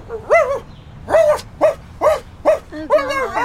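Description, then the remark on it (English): A person imitates a dog, letting out a quick run of about six or seven loud barks in a steady rhythm, with no other talking. “Why did I just bark like a dog?”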